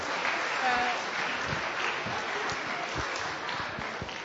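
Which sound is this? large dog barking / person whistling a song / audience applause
audience applause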